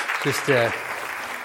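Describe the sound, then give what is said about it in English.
An audience claps to welcome a guest worship leader, a steady, dense wash of applause, with a brief voiced shout or cheer rising over it near the start before the clapping continues on its own. “Would you give her a round of applause, please?”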